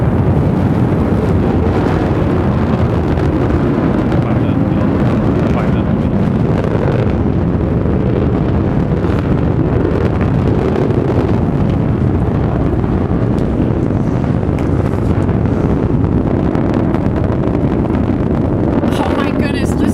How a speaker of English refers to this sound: Bezos and his three crewmates are now headed to space. Beautiful burn on that BE-3 engine. 30,000 feet. Liquid hydrogen. History is being made here in the West Texas desert right now. Liquid oxygen as a propellant.